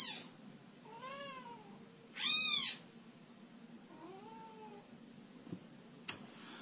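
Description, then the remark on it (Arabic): A cat meows three times in a row, the middle call loudest and sharpest, the others softer and drawn out, over a low steady hum with no one speaking. “القطط بس سامحونا.”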